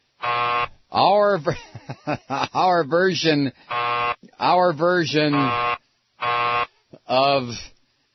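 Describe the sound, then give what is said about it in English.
A loud, flat novelty buzzer, a special Truth Seeker buzzer used as a BS detector during coverage of Bush's State of the Union, blares in several short bursts, alternating with a person talking between the blasts. “Welcome to the commercial-free coverage of Bush's State of the Union, complete with my sarcastic remarks and special Truth Seeker buzzer.”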